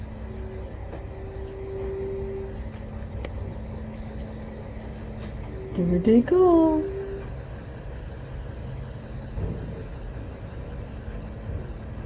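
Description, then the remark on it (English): A big green garbage truck collecting garbage rumbles by outside with a steady low engine drone that lasts the whole time, while a person speaks briefly partway through. “Look at that big green truck.”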